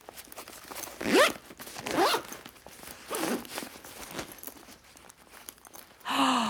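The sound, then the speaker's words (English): A zipper is pulled in a kitchen in three quick, rasping strokes about a second apart, fairly loud, followed by a short, different tonal sound at the very end. “That has got to be a zipper.”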